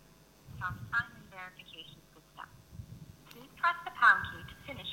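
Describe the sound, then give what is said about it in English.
A tinny, automated voice plays through a phone's speakerphone, speaking short prompts at moderate volume over a low background rumble, during a multi-factor authentication phone call for signing in. “Right, now I've got multi-factor authentication turned on, so demo gods be willing, I'm going to get a phone call in a minute, which is going to ask me to, here we go, and I'll put this on speaker.”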